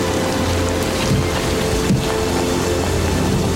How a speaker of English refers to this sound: It's raining.